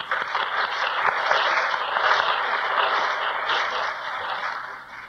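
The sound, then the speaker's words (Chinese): An audience at a church gathering claps for two translators in a steady, dense wash of applause that holds fairly loud for about five seconds before easing slightly at the end. No one speaks over it. “我们为这两位翻译员，我们拍手。”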